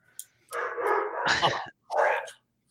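A person imitates dog barks in a few loud, drawn-out vocal bursts: a short yelp, then a long, strained woof and one more bark after a brief pause.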